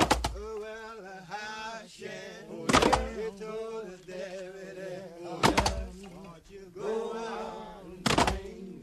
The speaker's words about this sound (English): which is a recording of a group of Black men in prison chopping logs.